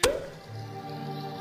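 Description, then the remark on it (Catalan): A cork pops out of a bottle once, a sharp hollow pop with a brief ringing tone, then a soft steady low hum continues with no talking. “Destapa.”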